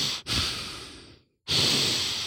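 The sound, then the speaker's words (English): A voice imitates heavy breathing heard in the dark: a long, loud, airy exhale that trails off, a brief silence, then another forceful breath starting abruptly. No words are spoken. “And that's all I hear is this breathing.”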